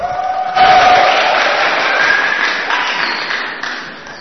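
An audience bursts into applause with some cheering as a speaker is called forward, a dense wash of clapping that starts loud and holds steady before tapering off slightly, with a few whistles or shouts mixed in.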